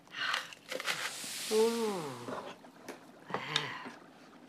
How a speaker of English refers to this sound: She opens it and pours the contents into a cauldron.